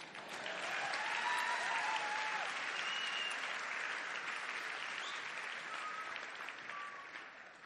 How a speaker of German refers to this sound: Das, er dürft klatschen, okay?